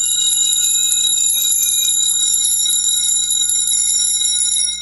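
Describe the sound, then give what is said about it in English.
A key on a keyboard instrument with copper chimes, all tuned to the same note plus octave and deliberately slightly detuned, played with a slow tremolo, sustaining one bright, shimmering metallic tone whose overtones beat and glitter against each other, steady and fairly loud throughout with no voices. “that has copper chimes, all tuned to the same note plus octave, and in fact deliberately slightly detuned”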